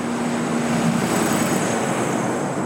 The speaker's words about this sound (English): And coming down the street here is a truck. It looks like a semi of some sort. Yeah, it's a coal truck. That's a coal truck running. And those are 24 hours a day here.